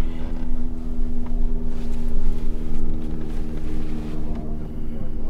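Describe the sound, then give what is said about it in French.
A helicopter drones overhead, its loud, steady engine and rotor hum filling the entire stretch with a deep layered tone and rushing noise, without fading away; one of many helicopters that fly over this place all the time, day and night. “Pourquoi il y a autant d'hélicoptères ici?”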